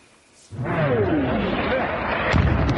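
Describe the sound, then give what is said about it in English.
Explosions in Ukraine on the first day of the Russian invasion: a sudden heavy blast breaks a quiet moment, its rumble lingering, and a second sharp boom lands near the end while a faint descending whine drifts through. “Air raid sirens and explosions shattered the peace today.”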